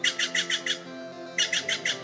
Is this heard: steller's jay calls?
yes